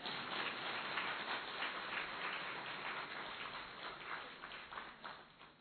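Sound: audience clapping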